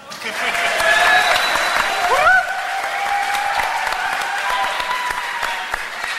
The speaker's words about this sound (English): Welcome to Beyond Hope. You're supposed to applaud now.